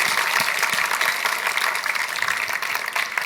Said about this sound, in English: Let's have a huge round of applause